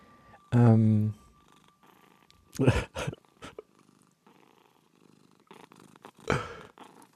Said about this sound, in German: Was ist denn das? Sind Katzen im Laden. Oh, Katzen. Sehr schön.